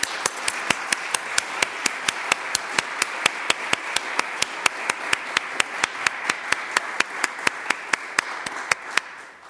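An audience at a public lecture applauds to welcome a guest, in a steady, even rhythm of about four sharp claps per second over a bright wash of scattered clapping, with no talking, before it trails off at the end.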